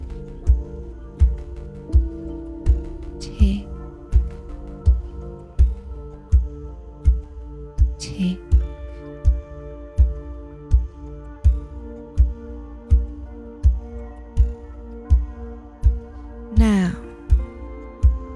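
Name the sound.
clock ticking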